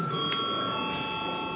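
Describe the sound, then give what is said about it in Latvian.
A chamber bell in the Latvian Saeima rings at the end of a sitting, before deputies register their attendance: a steady, sustained bright metallic tone with a couple of sharper strikes, fairly loud, with no talking over it. “Pirms beidzam saimes sēdi ir jāreģistrējas. Lūdzu zvanu.”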